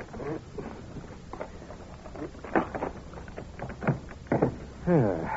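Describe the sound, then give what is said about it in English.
Scraping and sharp clicks as a paper knife pries at the locked middle drawer of a desk, the wood creaking in uneven bursts before a brief voice sounds at the end. “That paper knife ought to be capable of prying the drawer open.”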